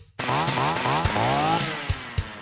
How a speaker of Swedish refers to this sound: Ja, till exempel grannpojkens moppe.